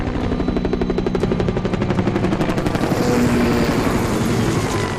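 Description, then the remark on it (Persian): A helicopter's rotor beats out a rapid, steady chop, loud, before the thumping blurs into a broad, dense engine roar as it passes overhead. “با این وضع که نمیتونیم دو مایل راه تا فرودگاه بریم، مخصوصا با اون هلیکوپتر.”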